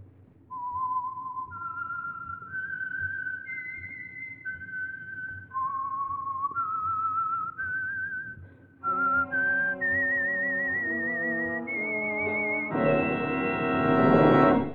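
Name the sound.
whistled signature theme tune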